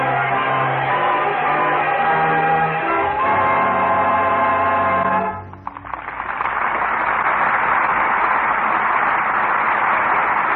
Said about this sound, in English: as the storm came, the crowd was coming too. Up from the cellars of Paris, up from the bare fields of a starving peasantry, the crowd was coming, chanting its hate, screaming for blood. The people of France in all their might, rising in revolution.